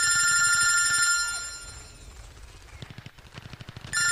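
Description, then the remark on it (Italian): A loud electric telephone bell, Dr. Bright's telephone, rings in a sustained metallic burst, fades, then gives way to rapid clattering pulses before the ringing returns abruptly at the end. “Il telefono del dottor Bright.”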